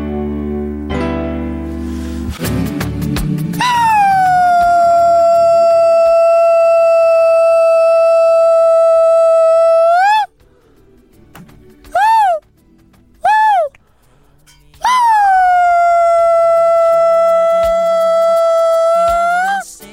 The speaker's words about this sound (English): What's up with the whale calls? Well, I haven't heard these in a while.